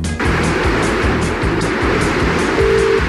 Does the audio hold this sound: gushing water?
yes